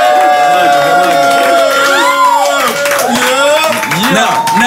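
A loud crowd cheers and claps nonstop for Nick Cannon on Drink Champs, with many overlapping whoops and shouts rising and falling over a steady wash of applause for the whole stretch.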